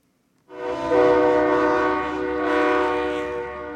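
A big-rig truck air horn, blown in solidarity with the People's Convoy on the Will Rogers Turnpike in northeastern Oklahoma, blares in one long, loud, sustained blast with a rich chord-like tone, rising in intensity partway through and holding to the end, with no talking.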